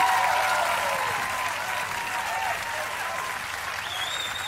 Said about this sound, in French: Sous les applaudissements, messieurs dames.